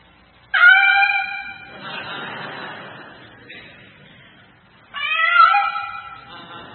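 Two drawn-out, harmonic cat meows with a short pause between them, the first starting about half a second in and the second near the end, fairly loud and close over faint background noise.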